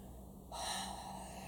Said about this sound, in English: Using your breath, coming up into the heart chakra, up into the fourth chakra, right? Up into the chest, breathing, breathing, breathing, breathing, breathing, breathing, breathing, opening, opening, opening, opening, opening, opening.